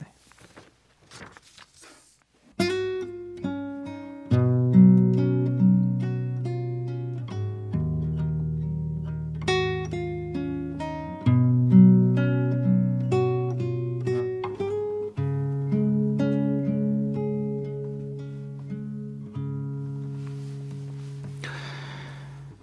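Acoustic guitar plays a gentle song intro, mixing picked notes with strummed chords in a steady, unhurried rhythm after a brief quiet start. Notes ring and fade clearly, with no voices.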